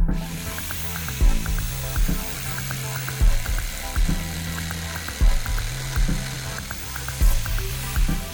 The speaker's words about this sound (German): Wenn sein Papa mit der Bohrmaschine arbeitet, ist Olli nicht weit.